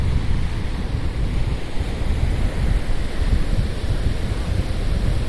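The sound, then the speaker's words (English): Ocean surf washes continuously onto a beach, recorded right at the water's edge just after sunset, a loud, steady roar of breaking waves with a gusty rumble of wind across the microphone and no voices. “We are standing right on the edge of the waves.”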